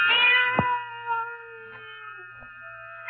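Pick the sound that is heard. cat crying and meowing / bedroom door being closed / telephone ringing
cat crying and meowing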